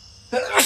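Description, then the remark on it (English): A single sharp sneeze: a short voiced intake followed by an explosive, breathy burst that fills the upper range, all over in under a second. “Bless you, bless you.”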